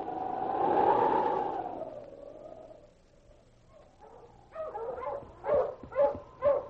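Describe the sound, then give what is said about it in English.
Sergeant Preston's husky sled dog team, led by King, on the frozen stretches of Rainbow Creek in the Yukon, barks in a quick series of sharp barks building toward the end, after a long wavering whine-like tone and a brief lull. No one speaks. “With King in the lead, Sergeant Preston urged his dog team up the frozen stretches of Rainbow Creek.”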